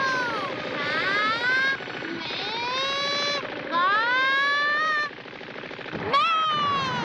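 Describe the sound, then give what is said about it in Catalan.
The engines of several flying ships whine and swoop up and down in pitch over a dense, continuous mechanical rumble, loud, as the ships fire at the boy Goku, with rapid chattering bursts mixed in and a sharp burst near the end. “Diverses naus disparen al noi, que salta sobre una d'elles i clava cop de puny al pilot, que s'estavella contra una teulada.”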